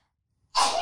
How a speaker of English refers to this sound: Bless you. That was actually a nice one. It's usually like, ah! It's usually so... I love you. I usually sneeze. Like, I just made that cute on purpose. I'm cute! I made it cute on purpose. Normally, I'm like, so gnarly.